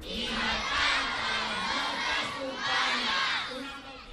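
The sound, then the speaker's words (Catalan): Loud, sustained shouting from a large group of schoolchildren in a school playground in Catalonia at break time, swelling in two big waves of collective cries with a dense, bright crowd texture throughout. “A l'hora del pati, a molts centres s'han sentit aquests crits”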